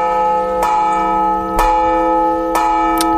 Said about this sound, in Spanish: Esto es que están tocando a misa las campanas cuando se anuncia que va a empezar la ceremonia. Todo esto tiene una explicación, y es que la UNESCO ha declarado el toque manual de campanas español Patrimonio Cultural Inmaterial de la Humanidad.